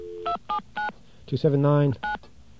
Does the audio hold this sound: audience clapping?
no